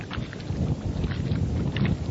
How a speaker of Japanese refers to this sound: 波の音がちょっと入るかもわかりませんね。あの釣り場のところに打ち寄せる波の音です。